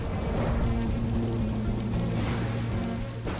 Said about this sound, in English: Above ground, thick rain cascades across the rock face, turning it into a glistening grey mirror.